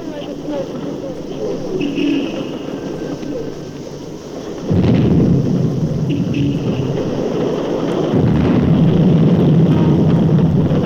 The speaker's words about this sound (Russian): Опять обстрел.